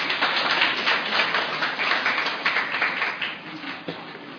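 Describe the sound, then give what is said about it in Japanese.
A sustained wash of applause from a crowd at the end of a talk at a training session, steady dense clapping that fills the whole clip at an even level with no voices on top. “拍手をしていただきまして申し訳ございません、私拍手していただくような人間じゃないですから、最後皆さんと合唱して終わりたいなと思っております。”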